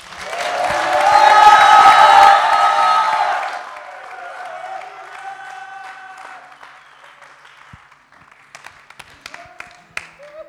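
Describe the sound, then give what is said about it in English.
On a count of one, two, three, a crowd applauds Jesus, breaking into loud applause mixed with cheers and whoops, which swells for a few seconds, then fades into softer clapping and a few scattered, isolated claps. “I want you to applaud Jesus.”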